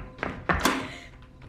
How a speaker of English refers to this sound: As Philip stumbles out of the house, Dawn rushes to the door, locking it.